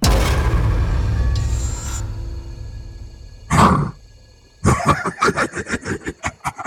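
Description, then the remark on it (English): A little girl's laugh turning into a deep, rumbling beastly growl with a rough, gravelly texture, followed by a brief harsh snarl and then a series of rhythmic, guttural pulsing growls that fade out. “The little girl's laugh transformed first into an animal growl before changing its timbre and becoming something truly monstrous.”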